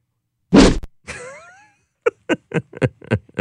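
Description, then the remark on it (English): A loud, short whoosh bursts out, trailed by fainter sliding whistle-like tones, then a quick run of sharp, evenly spaced hits. No one speaks. “That's a great whoosh. I wonder how they make that sound effect.”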